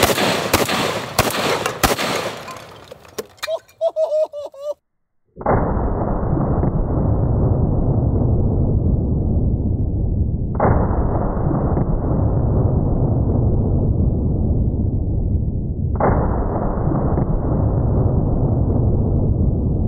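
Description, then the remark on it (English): A few sharp cracks and clatters, a brief silence, then three heavy shotgun blasts about five seconds apart, fired with number 4 buckshot at large clay pots set on a table and one set higher up, each booming loudly and trailing off in a long rumble. No one speaks. “Gonna be loaded up with 5 rounds of number 4 buck.”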